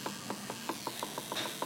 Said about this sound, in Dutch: Een koffiezetapparaat. Een koffiezetapparaat. Je hebt koffie gezet voor papa en voor mama. Heb je helemaal zelf gedaan.